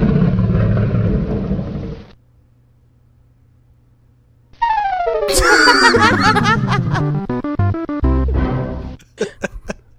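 The Atari Jaguar console startup sound: a roaring growl, a brief low hum, then cascading descending synth tones building into bright, loud music that ends with a few sharp orchestral stabs.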